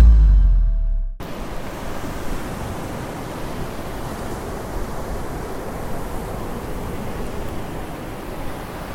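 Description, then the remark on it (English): After a brief low rumble, steady wind and crashing surf fill a wet, windy British seaside in Cornwall, a constant broad rush of seaside noise that holds loud and unbroken to the end with no voices. “It's wet, it's windy, and it's beautiful. Where else could I be but the great British seaside?”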